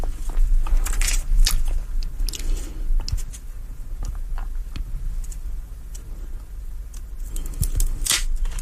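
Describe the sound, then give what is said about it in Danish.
A genuine Havana cigar, a Romeo y Julieta, is snipped with cigar scissors: a series of sharp, crunchy clicks and squishing snips with faint rustling handling noise in between, and no one speaking. “Det klarer vi også her i saksen.”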